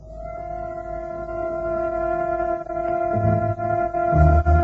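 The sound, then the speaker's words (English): The 10 o'clock train from Paddington to Oxford rumbles along with a steady, sustained horn-like tone droning over it; low mechanical chugging grows louder and heavier toward the end. No one speaks. “We took the 10 o'clock train from Paddington and were at St.”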